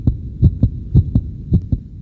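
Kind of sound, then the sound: human body sound, pounding heartbeat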